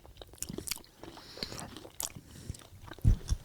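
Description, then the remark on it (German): Crunchy honey-coated nuts are bitten and chewed in a string of sharp, crackling crunches with brief pauses, ending in a louder, heavier bite. Nobody speaks. “Nur wenn man dann einmal diesen ersten Biss gemacht hat, dann merkt man, oh, so fest sind die gar nicht.”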